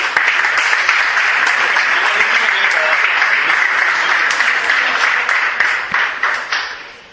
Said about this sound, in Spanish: Así que un fuerte aplauso para la Asociación de Pintores Contraste.